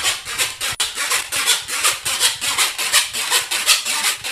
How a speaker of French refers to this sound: Il s'agit de coulisser un fer sur les dents de la scie et cela donne une sonorité.